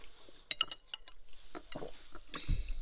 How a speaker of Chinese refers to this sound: 来，为了我们的友谊，干杯！